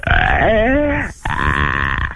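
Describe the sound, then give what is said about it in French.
A voice imitates a reindeer crying out in pain while rubbing the tongue hard against a carpet: two loud, strained, guttural groans, the first wavering in pitch, the second rougher and steadier, with a brief break between them. “Et crie, je veux entendre le renne qui crie et qui a mal avec la moquette.”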